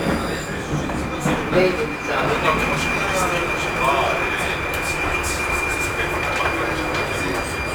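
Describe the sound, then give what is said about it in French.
A Prague metro train runs steadily with a continuous rumbling roar, a persistent high whine from the wheels or motors riding over it. “Métro de Prague.”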